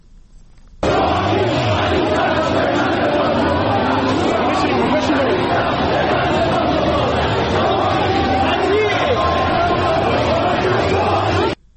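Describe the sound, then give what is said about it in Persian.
A large crowd of protesters in Iran shouts slogans against President Hassan Rouhani during a march, chanting 'Rouhani, Bani-Sadr, congratulations on your union' in a loud, sustained roar of many voices rising and falling in rhythmic chant for about eleven seconds before cutting off abruptly. “در ویدیوهای منتشر شده در شبکه‌های اجتماعی صدای معترضان شنیده می‌شود که فریاد می‌زنند روحانی بنی صدر پیوندتان مبارک.”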